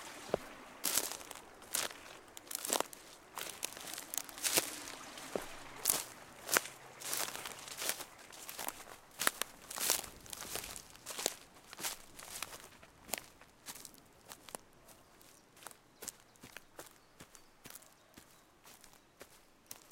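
Footsteps walk steadily through long green grass by a river, each step a swishing rustle in an even rhythm that carries on throughout with no voices.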